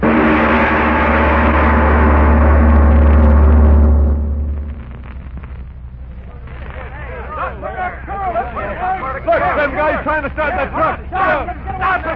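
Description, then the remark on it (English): A heavy truck engine being started by a group of men rumbles loudly for several seconds, then fades out, followed by an excited crowd of voices shouting and talking over one another. “Look, them guys trying to start that truck.”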